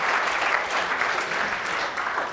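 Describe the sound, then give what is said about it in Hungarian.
A room full of people claps steadily and warmly, a dense, continuous wash of applause that holds at an even level without pauses, fairly loud. An audience welcomes a speaker before a lecture on the stability of the new constitution and on constitutional amendment. “Köszöntsük egy tapsalőt!”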